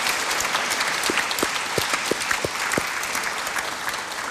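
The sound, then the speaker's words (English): An audience claps steadily for several seconds, a dense, continuous patter of hands with a few sharper individual claps standing out. “So please give everyone a big round of applause.”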